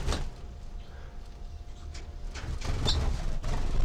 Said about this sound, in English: I'm in the cage, cell 4, with 305, 306, and 315 and 318. And bird 315 is undergoing post juvenile molt. Stop. So recording. I'm right next to all the birds now, and they're flying around.